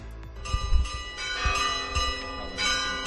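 Church bells peal from a church bell tower in Teruel, Spain, rung at midday in protest against rural depopulation, several bells striking in an uneven, overlapping rhythm with long ringing tones and deep low thuds, moderately loud with no voices.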